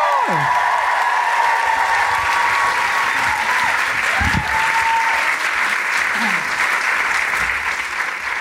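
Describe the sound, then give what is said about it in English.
A large audience in Manchester applauds steadily and loudly as a performer is welcomed to the stage, a dense sustained wash of clapping with faint cheers and whoops rising through it, filling the whole stretch without a break. “Now, I know you've just clapped, but can I have you cheer and roar again for the trans community?”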